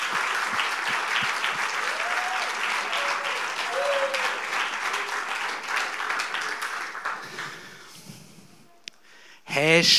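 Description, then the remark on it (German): An audience applauds the children for their songs and their skit, steadily for about eight seconds, a dense crackle of many hands clapping that gradually thins and fades, followed by a short burst of louder sound at the end. “Ich glaube, das ist nochmal ein Applaus für die Kinder wert.”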